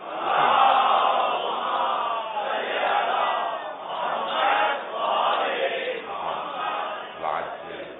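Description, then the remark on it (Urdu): A large crowd chants a religious salawat together for the pleasure of Sayyid al-Shuhada, many voices rising and falling in loud, steady waves of unison recitation for several seconds. “آئیے ذرا میں چند آیات کو پیش کرنا چاہتا ہوں، ان کی تشریح کو پیش کرنا چاہتا ہوں، برائے خوشنودی سید الشہداء صلوات.”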